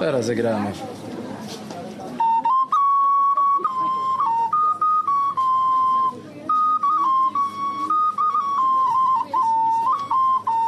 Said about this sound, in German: Das ist eine Pfeife. Wir haben traditionelle Spielzeuge und auch Pfeifen, die mit 4 Tönen spielen. Jetzt spiele ich.